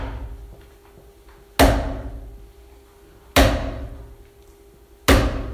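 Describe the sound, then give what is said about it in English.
Three heavy, booming thumps of a preacher's fist pounding a wooden pulpit, spaced roughly two seconds apart, each loud impact trailing off in a brief resonant decay over a low background hum. “Hopefully I don't break this pulpit. I'm a pulpit-pounding preacher.”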